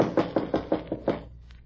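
A quick series of about six firm knocks on the wooden door of a house with a porch, evenly spaced, followed by a brief quiet pause with no voices.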